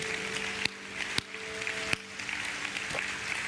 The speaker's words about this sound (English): Come on, can we give a good clap to the Lord today?